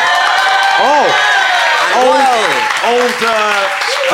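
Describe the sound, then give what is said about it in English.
An audience gives a slow handclap for host Matthew Crosby, a loud, dense, continuous wash, while several voices whoop and call in rising and falling tones over the applause. “Slow hand clap, Matthew Crosby.”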